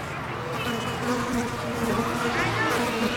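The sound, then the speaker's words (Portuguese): An Aedes aegypti mosquito buzzes steadily for the full three seconds, a continuous droning hum with a slightly wavering pitch and no pauses. “Nós, Aedes aegypti, somos duros na queda.”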